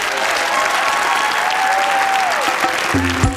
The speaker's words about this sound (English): Welcome back, man. We are hanging in here having some fun. Please make some noise for my brother,